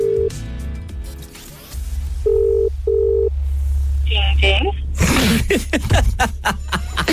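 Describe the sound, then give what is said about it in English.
A phone rings with two short, steady electronic tone bursts in quick succession, then a brief higher warbling tone, before people start talking and laughing over a low background hum. “So if this is your phone ringing, please do what you got to do, all right?”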